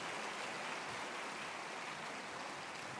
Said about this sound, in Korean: 마산교회 합창단 위해서 한번 다시 한번 큰 박수 부탁드리겠습니다.